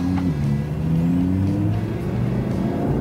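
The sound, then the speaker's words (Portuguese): A naturally aspirated V10 car engine revs loudly on a race track, its deep harmonic drone steady throughout, with the pitch climbing and easing slightly as the throttle changes. No one speaks. “Bom, esse é um dos últimos carros que agora a gente vai ter aspirado ainda, motor V10.”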